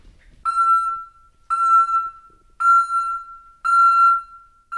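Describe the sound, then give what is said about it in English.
A parrot named Tango mimics a construction truck's reversing alarm: four loud, steady mid-pitched beeps, each about a second long with short gaps between, repeating in an even rhythm with no talking. “That's not a construction truck backing up. It's Tango.”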